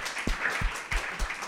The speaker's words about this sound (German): Applaus.